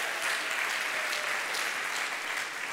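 Steady crowd applause, a dense wash of many hands clapping at a constant loudness throughout, with no voices standing out.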